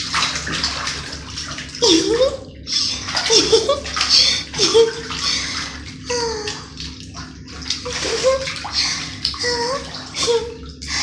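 splashing water

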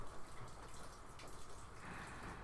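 rain falling

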